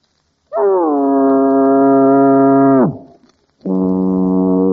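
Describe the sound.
A voice imitates a foghorn with two long, low, droning blasts, the first holding steady for over two seconds before dropping off, then a brief pause and a second blast.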